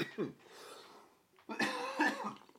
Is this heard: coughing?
yes